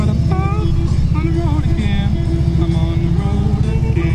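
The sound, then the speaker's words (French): A steady, loud rumble of motorcycle engines as many bikes pass by during a morning motorcycle run, their throaty low drone continuous throughout, with faint voices mixed in underneath. “on va venir avec notre moto.”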